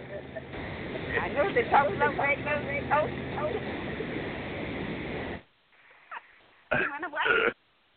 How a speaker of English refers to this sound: I start coughing when I try to talk.